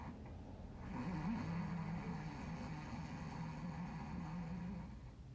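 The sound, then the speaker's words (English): One long, gentle snore-like inhale done as a breathing exercise, a soft rasping rattle at the back of the throat held steadily for several seconds, with no talking. “It's very gentle, almost like you're just touching the edge of the snore.”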